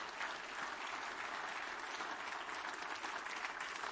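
Sustained applause from a large church audience giving the Lord a clap offering, a dense, steady wash of many hands clapping at once, loud and continuous throughout with no voices standing out.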